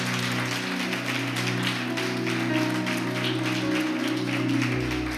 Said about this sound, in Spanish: Denle un fuerte aplauso a nuestro Señor. Aleluya.